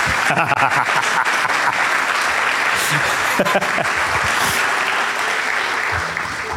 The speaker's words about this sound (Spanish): Me sería un aplauso final.